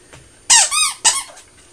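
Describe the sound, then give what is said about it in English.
A squeaky toy is pressed twice in quick succession, giving a loud, wavering squeal followed by a shorter, sharper squeak, with no talking. “When Mummy says squeaking or squeaky or squeaked or squeak, you can press it then.”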